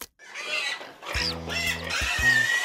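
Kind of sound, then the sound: animal, pig grunting and oinking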